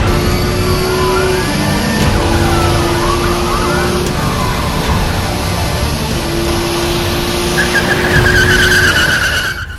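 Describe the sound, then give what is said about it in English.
A loud, steady car engine roars throughout while tires squeal in wavering, high-pitched skids, with a sharper screech rising near the end. No one speaks. “Wanna see my car?”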